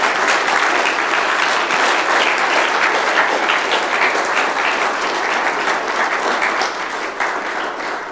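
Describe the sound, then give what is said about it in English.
A large audience applauds the speakers of an event steadily, a dense wash of many hands clapping at once that holds strong for several seconds before easing slightly toward the end. “a round of applause for all the speakers.”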